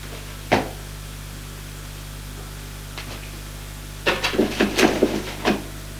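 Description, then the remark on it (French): Drawers of a writing desk (secrétaire) being opened: a single sharp wooden knock, a faint bump, then a quick run of scraping, clattering thuds, all over a steady low hum with no voices. “Il ouvre les tiroirs.”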